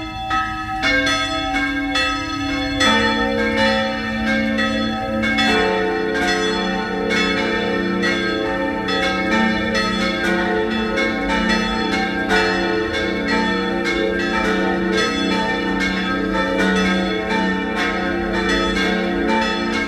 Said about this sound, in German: Es ist 12 Uhr. Sie hören die Glocken der Pfarrkirche Papneukirchen in Oberösterreich.